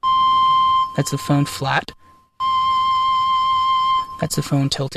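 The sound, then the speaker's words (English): A pure, flute-like tone from an iPhone Ocarina app, played by blowing into the iPhone's microphone while fingering on the touch screen, holds steady for about a second; a man speaks briefly; the tone returns for nearly two seconds, gently wavering as the phone is tilted for vibrato, before he talks again. “And then the tilt of the phone is actually mapped to vibrato.”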